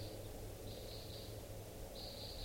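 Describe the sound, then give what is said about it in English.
Faint flight calls of type 2 crossbills flying past come in two short bursts of quick, repeated high chips over a steady low background hum, with no voices. “I hear crossbills at 7:46.”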